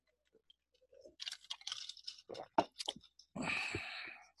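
Someone takes a sip of a drink: a run of small wet mouth clicks and crunchy smacks, then a longer noisy slurp near the end, with no talking.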